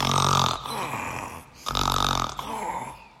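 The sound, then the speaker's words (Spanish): A voice imitates a little lamb snoring sweetly: two drawn-out, breathy snores with a throaty rumble, separated by a short pause. Moderately loud, with no talking. “La ovejita roncaba dulcemente.”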